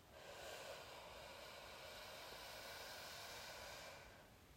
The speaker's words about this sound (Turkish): Derin nefes al.